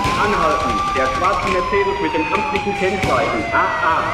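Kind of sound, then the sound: vehicle, police car siren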